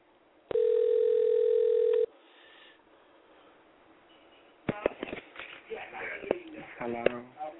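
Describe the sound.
A telephone line gives one loud, steady electronic tone lasting about a second and a half as another caller's number is sent over a switchboard, then goes to faint line hiss before voices start talking over the connection.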